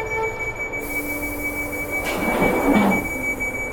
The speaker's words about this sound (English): Right, we'll close the doors. So I'm going to make a public address announcement, so I'm closing the doors. Please stand clear of the doors.